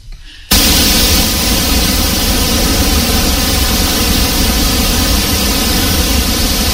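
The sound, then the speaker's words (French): A steady, dense wash of pink noise starts abruptly after a brief quiet moment and holds at a constant loud level, sounding like a rushing torrent or waterfall. “Non, en fait, le bruit rose, c'est ça.”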